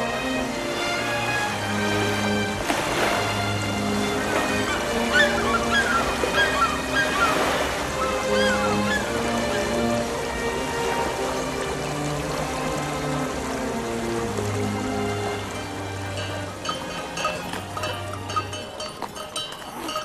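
flowing river water

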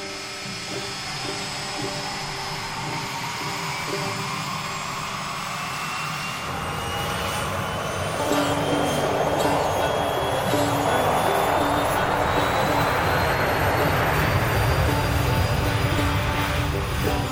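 airplane engine droning

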